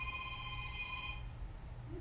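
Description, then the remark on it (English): A telephone rings during preaching, once in a single trilling burst lasting about a second, then cuts off, leaving a low steady hum. “he'd answer the phone while he was preaching”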